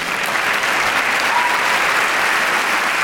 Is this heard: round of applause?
yes